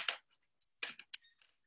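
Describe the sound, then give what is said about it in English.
A window being shut: a short scrape, a brief high squeak, then several quick hissy clunks and a small latch click, all fairly quiet with no talking. “Sorry, I'm just going to shut my window because I can hear a dog barking outside.”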